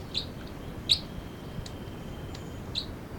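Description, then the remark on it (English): Bird 306 gives short, high-pitched chittering calls, three sharp chirps spaced irregularly with a faint thin whistle between them, over a steady low background hiss. No one speaks. “The chitter by 306.”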